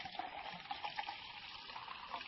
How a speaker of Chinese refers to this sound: 来来客厅坐啊，我给你倒一杯蜂蜜茶，你边喝边等。